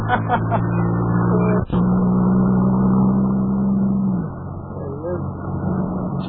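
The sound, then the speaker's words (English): A car engine hums steadily, its low tone holding and then dropping away as the car slows to a stop, with faint voices underneath. “Well, he's stopping his car. He's stopping his car, fellas.”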